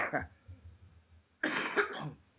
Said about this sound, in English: As soon as I stop coughing, right? Yeah, I know, I hear it.